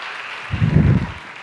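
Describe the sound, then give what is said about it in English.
A short burst of applause from a small crowd, a dense patter of clapping that swells briefly in the middle and then fades, with no voices over it. “Shall we give him a round of applause?”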